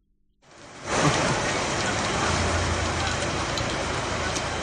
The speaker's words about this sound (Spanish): Es el sonido de la fuerte tromba de agua que caía en parte de la comarca coruñesa en la tarde-noche de lunes y que causaba graves incidencias.